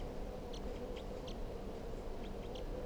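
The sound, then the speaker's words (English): A wild bird coming down toward a cage gives several short, high-pitched chirps in small bursts, fairly faint against a steady low rumbling background, with no one talking. “It's recording the birds here.”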